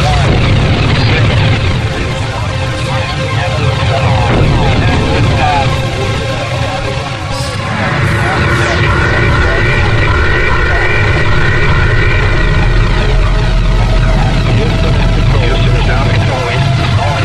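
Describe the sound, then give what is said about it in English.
A loud, continuous rocket engine roar at launch, as thrust builds up to 7.7 million pounds, rumbles through the whole stretch, dense and unbroken, with a deep low-end thunder that swells slightly partway through and holds steady to the end. “The engine's now building up to 7.7 million pounds.”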